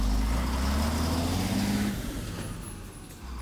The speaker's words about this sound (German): Dann klappt der Lasterfahrer die Klappe wieder hoch. Und der Laster fährt den Bagger zur Baustelle.